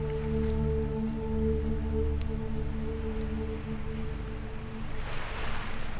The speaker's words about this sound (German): Lausche den Wellen und tauche tiefer in dich hinein, sodass du ankommen kannst bei dir.